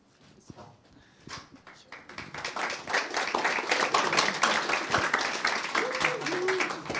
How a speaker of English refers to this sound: I thought you'd clap after the talk. At least I hope so.